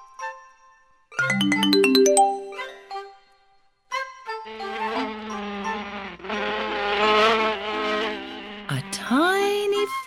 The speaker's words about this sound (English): Fly buzzes by.